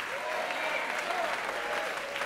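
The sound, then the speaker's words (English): An audience at a band concert applauds a tuba player, a dense, even wash of applause that holds at a constant loudness throughout, with faint voices mixed into the crowd noise. “How about a round of applause for … on tuba?”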